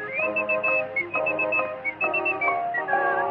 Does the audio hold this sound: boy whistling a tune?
yes